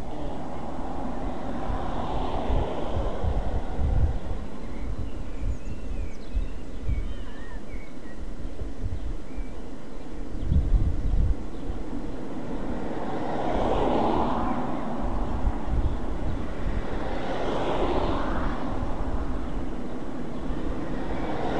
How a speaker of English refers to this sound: can you turn the traffic off, please?